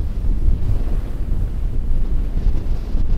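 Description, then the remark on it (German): A strong, steady storm wind roars and buffets continuously, with heavy low rumbling gusts and a hissing wash, driving fine snow over a range of hills in far northern Alaska during the January polar night. “Ein Sturmwind peitscht feinen Schnee vor sich her.”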